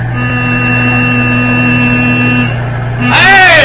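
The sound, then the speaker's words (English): A heavy U.S. Army truck engine rumbles steadily with a droning low hum as it approaches on a road, then a loud, blaring horn cuts in near the end, its harmonics wavering. “Must be Jackson in his truck.”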